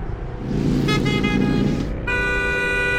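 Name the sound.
car horn honking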